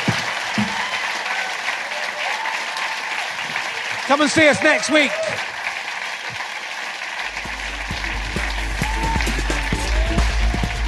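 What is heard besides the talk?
audience applause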